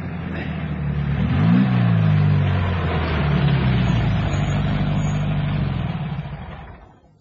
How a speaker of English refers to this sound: Stop the car near those trees ahead. It's just a short walk up the line.